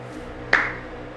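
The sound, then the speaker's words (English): A single sharp hand clap rings out against a quiet background, its bright echo trailing off slowly, as if starting a slow, deliberate clap. No one speaks. “And from the entrance, where the scarecrows were, that big entrance, you hear a slow clap.”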